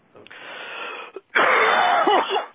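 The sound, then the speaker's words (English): A harsh, hacking cough close to the mic, in two long raspy bursts separated by a brief pause, the second louder and more strained, with a wheezy quality. “He goes with the hacking.”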